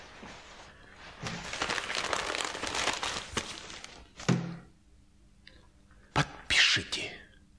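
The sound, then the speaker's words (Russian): A paper certificate rustles and crinkles for a few seconds as it is handled, followed by a few soft thumps and a brief sharper crinkle near the end. “А что же это за бумага?”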